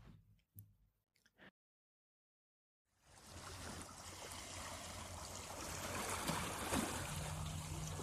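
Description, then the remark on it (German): After a few soft knocks and a brief silence, shallow waves lap and slosh rhythmically in a harbor among moored boats, a continuous watery wash that gradually swells louder, with no voices. “Fast geräuschlos halten die Schiffsglocken der angetauten Boote im Hafen, dessen Läuten beinahe gänzlich von dem rhythmischen Schwappen der seichten Wellen übertönt wurde durch den Wind.”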